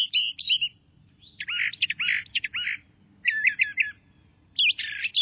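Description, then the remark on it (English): An orchard oriole sings in a shelter belt of trees in bright, rapid bursts of chirps and warbled phrases, separated by brief pauses, clear over a soft, steady low rumble of outdoor background noise. “Like this orchard oriole, many of our common woodland birds nest in shelter belts.”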